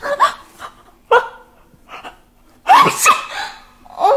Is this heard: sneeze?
yes